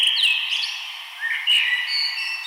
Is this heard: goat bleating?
no